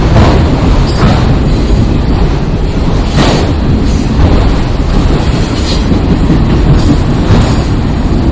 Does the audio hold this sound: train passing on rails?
yes